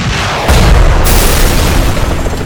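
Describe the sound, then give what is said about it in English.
A rocket-propelled grenade, fired from a tube at a helicopter, explodes: a sudden loud blast with a deep, heavy low-end boom, followed by a sustained rumbling roar that lingers for about two seconds, with no voices. “Then the warrior pulled the trigger and sent a rocket-propelled grenade spiraling up toward them.”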